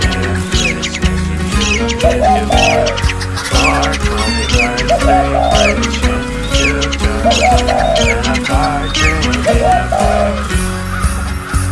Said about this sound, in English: I can't fucking take this anymore, these fucking birds. Ah, shut the fuck up.